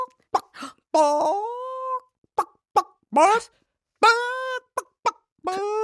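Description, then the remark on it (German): A person imitates a clucking chicken as an example of a courage scream, with short, sharp clucks broken up by drawn-out, rising squawking calls, loud, repeated several times in an uneven rhythm. “Dafür, this week, we have trainiert the Gackern of a Huhn.”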